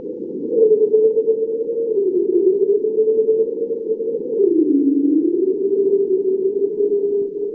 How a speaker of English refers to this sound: Here's the bowhead whale. This is recorded by Bill off of Barrow in the Beaufort Sea.